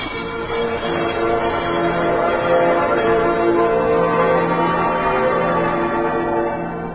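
bells ringing

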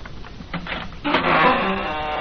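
door being opened

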